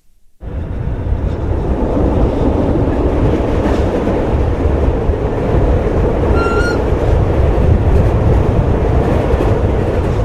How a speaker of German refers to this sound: Es ist laut, es rumpelt und es ist heiß im Zug. Die Fenster sind offen und es schmeckt nach frisch gemähtem Gras. Die rot-cremefarbigen Züge aus den 80er Jahren rattern von Liestal ins Waldenburgtal